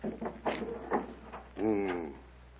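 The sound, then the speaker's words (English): The door to Timur's private chamber creaks open. A few short, muffled clunks come first, then a drawn-out, wavering hinge squeal that holds for about half a second before fading. “In his private chamber, Pala, that door.”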